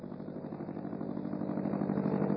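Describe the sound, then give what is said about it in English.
The engine of Orville's early airplane, started as he climbs onto the bottom wing, runs with a steady, rapid chugging pulse, a rough low drone that grows slightly louder over a couple of seconds, with no voices. “Orville climbed onto the bottom wing of his plane and started the engine.”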